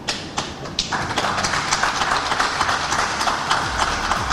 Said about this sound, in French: Les applaudissements eh bien, de cette salle de conférence de presse à l'issue de l'interview de Aliou Cissé par nos confrères qui s'étaient exprimés justement à propos de cette qualification mais notamment aussi sur sa complicité avec Alain Giresse